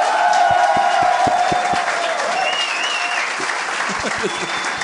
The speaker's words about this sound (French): Mesdames et messieurs, …, applaudissez-le.